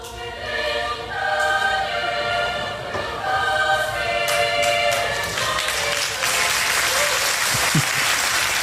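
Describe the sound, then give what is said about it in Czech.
At a festival's final concert, the audience bursts into applause at the start of the song La Montanara while the Jitro choir's sustained singing continues; the clapping grows denser and louder, swelling into a steady, roaring wash that buries the music by the end. “A lidi to prostě nevydrželi a už začali tleskat na začátku.”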